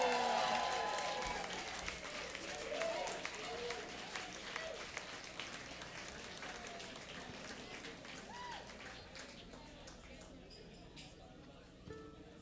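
A crowd applauds the fiddle players with dense, crackling clapping that starts loud and gradually thins and fades, with scattered whoops and cheers mixed in.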